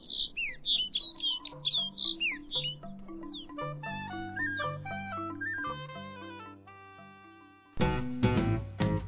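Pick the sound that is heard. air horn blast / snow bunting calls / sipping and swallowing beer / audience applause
snow bunting calls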